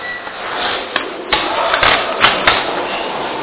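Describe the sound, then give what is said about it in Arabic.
An air conditioner starts up: a few sharp mechanical clicks over a steady, rising whoosh of airflow and a low hum, with no one speaking. “أنا شوي محتار محرار فتسمحون لنا نشغل التكييف بس.”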